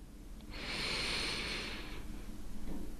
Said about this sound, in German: Und damit darfst du einmal mit mir gemeinsam ganz, ganz tief einatmen.